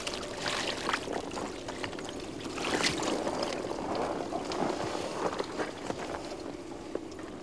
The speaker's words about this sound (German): Zum Schluss spülen, wieder mit kaltem Wasser. Schmutz und Reinigerreste werden einfach weggeschwemmt.